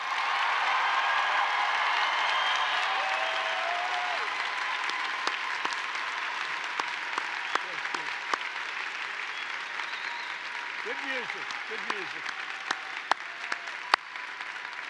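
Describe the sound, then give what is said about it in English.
A steady crowd applause of many hands clapping together fills the whole stretch, thinning slightly toward the end into scattered sharper claps, with a faint voice or two calling out briefly. “Some of the ones that got a little applause, I thought that was going to be a — see, I just don't know the farm business, I guess.”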